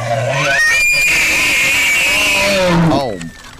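A male elk bugles: a loud, eerie whistle climbs steeply to a high, sustained scream with a raspy undertone, then drops into short descending grunts before fading.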